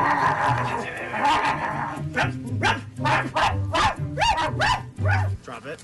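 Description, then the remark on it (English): A woman imitates a dog being reprimanded, letting out a rapid series of loud barks and yips after a brief stretch of murmuring, the barks coming in uneven bursts. “she's the dog. You'll hear a dog barking, and she's getting reprimanded.”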